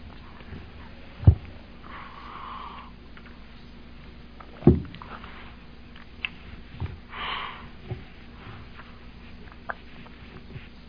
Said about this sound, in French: J'ai une sinusite aujourd'hui, ça paraît quand je parle? Non? Excusez si je renifle comme un mufle.